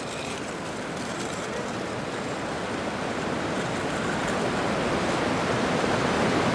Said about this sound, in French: Sur le pont de l'abattoir, c'est un grondement constant, puissant, que ne viennent alléger que quelques infimes clapotis et le léger bruissement des petites vagues résiduelles qui s'entrechoquent.